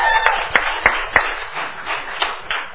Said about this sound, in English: Give him a round of applause, all right?